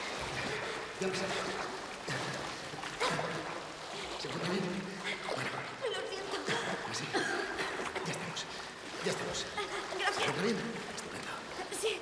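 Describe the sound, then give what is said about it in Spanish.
Continuous water splashing and sloshing as a man swims quickly to a woman splashing in the middle of a pool, holds her by the waist and swims on his back with her to the pool edge, with voices and a brief chuckle mixed in over the churning water. “Decidido, nada rápidamente hacia ella. La sujeta por su cintura y, nadando de espaldas, se dirige con ella hacia el borde de la piscina.”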